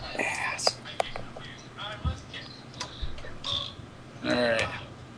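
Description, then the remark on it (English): A clock ticks with sharp, sparse clicks, and brief ringing chime-like tones sound near the start and end, while someone murmurs or whispers quietly. “A lovely clock is dinging that you guys hear constantly.”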